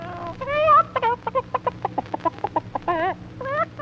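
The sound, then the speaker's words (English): A voice imitates a hen clucking as the character Madame Clara Cluck: a rapid, bouncy run of about a dozen short clucks, opening and closing with warbling, drawn-out squawks, loud. “Here comes Madame Clara Cluck.”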